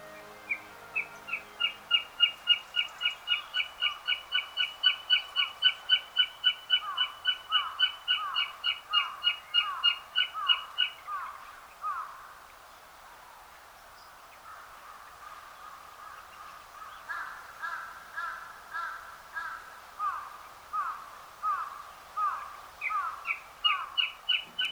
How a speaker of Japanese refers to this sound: 東京原宿の明治神宮、かつての原野に樹木を植えて100年経ち、豊かな森になりました。広く深い森が多くの命を支え、生き物たちの聖域になっています。森の中から聞こえてきた大きく響く声はオオタカです。